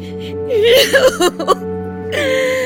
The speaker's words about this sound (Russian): Бедная женщина. Как она плачет. У нее сыночек потерялся.